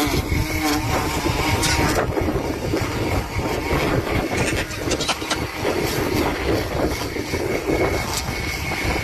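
A small engine like a weed whacker drones steadily outdoors during a wedding on a windy day, loud, with a rough buzzing whine and gusty wind noise throughout. No one speaks.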